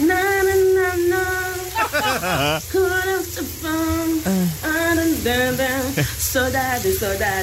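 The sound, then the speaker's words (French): A woman, recorded on her mobile phone in the shower at about 7 pm, sings a wavering melody with sustained, pitched notes over a steady hiss of running shower water that continues throughout. “enregistré en train de chanter sous la douche.”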